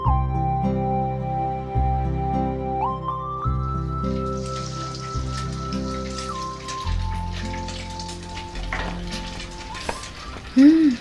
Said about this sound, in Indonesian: Ini, Kak, menggoreng ikan.